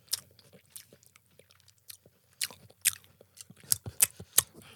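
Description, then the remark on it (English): Crunchy chewing of a maple pecan snack, with irregular brittle crackles that grow louder and sharper toward the end, no talking. “It is so crunchy. It's not that crunchy. Kind of brittle.”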